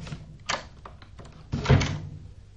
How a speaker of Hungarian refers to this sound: az ajtó hogy... önmagától becsukódik, mihelyt elengeded a kilincset.